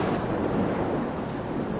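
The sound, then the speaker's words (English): A steady, continuous roar of ocean waves and surf played from a sleep-sounds CD, a broad rushing wash that holds an even loudness throughout, with no voices present. “Here's another good one. Ocean Waves.”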